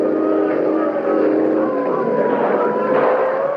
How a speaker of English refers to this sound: Police boat coming fast.